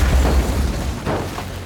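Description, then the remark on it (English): A small plane crashing after veering off a grassy runway during takeoff: a heavy, booming impact with a deep low rumble and a rough crunch of noise that holds steady for under two seconds, with no voices. “The plane veers off the runway and crashes.”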